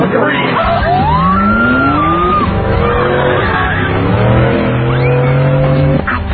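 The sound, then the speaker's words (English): A car engine roars at speed, its pitch sweeping up and down while tires screech in a loud skid, continuous, with voices mixed into the commotion. “Stop the car!”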